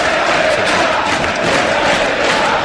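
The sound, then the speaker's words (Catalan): A large stadium crowd at Vallecas chants in unison against president Martín Presa ('vete ya') during a football match, a loud, sustained roar of massed voices with rhythmic swells, steady throughout without pause. “Comencen els crits que hi ha cada jornada aquí a Vallecas contra el president Martín Presa, vete ya.”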